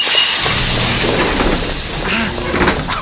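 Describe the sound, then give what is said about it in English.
U-Bahn subway train doors hiss shut with a steady, loud rush of air over a low mechanical rumble, a thin high whine and a few soft clunks. “This stupid door almost squashed me.”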